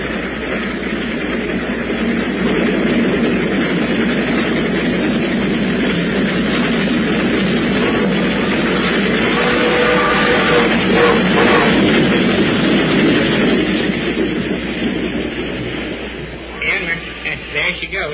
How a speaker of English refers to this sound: You're going to hear your train come through this cut.